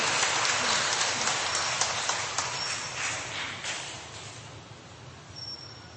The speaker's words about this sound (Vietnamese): Một tràng pháo tay để chúng ta cảm ơn sự đóng góp chia sẻ của anh chị em.